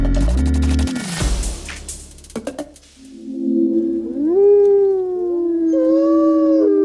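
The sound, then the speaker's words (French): Several wolves howl together, their long, drawn-out tones rising and overlapping in a steady chorus. A brief low, rumbling burst and a few sharp knocks come just before the howling begins. “Et ce sont les loups qui sont de plus en plus nombreux en France, qui sont aujourd'hui à la une de la science.”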